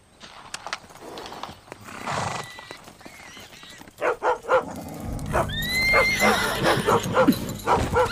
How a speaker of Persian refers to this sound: آروم باش پسر، آروم. این سگ کثیف رو کنترل کن.